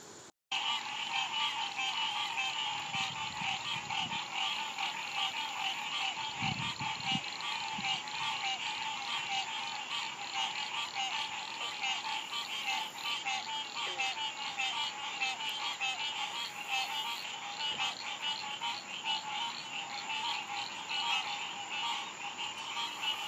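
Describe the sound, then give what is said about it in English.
A dense, continuous chorus of frogs croaking and trilling in many different voices, some deep and bleating, others high and chirpy like small birds, steady and loud throughout with no talking. “just so I could see the variety that's here, because there are some that sound like moose, some sound like literally goats, and others that sound like little tiny birds.”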